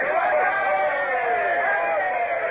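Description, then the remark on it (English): A group of men climbing up the side of a ship together raises a loud, sustained cheer, many voices yelling together in one continuous roar that holds steady for a couple of seconds without words, meant to sound like a big boarding party. “Now, all up the side together and give a cheer.”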